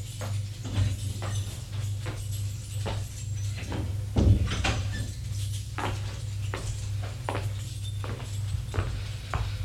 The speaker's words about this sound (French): Il sort de l'ascenseur et va ouvrir la porte de son appartement, qui est la porte de droite.